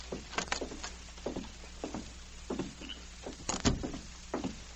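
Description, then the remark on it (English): A run of small metallic clicks and rattles as a key, picked from a bunch of keys, works the lock of the main building's door in a company compound, then a louder clunk as the door is pushed open, with no one speaking. “He took a bunch of keys out of his pocket, selected one, and then opened the door.”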